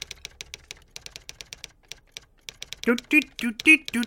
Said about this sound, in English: Yeah, I know, you want music instead of this goddamn typewriter.